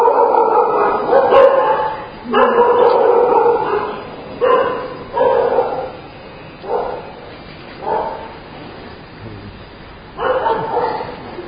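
A dog barks loudly, about eight or nine full-throated barks spaced irregularly with short pauses between them, and no one speaks.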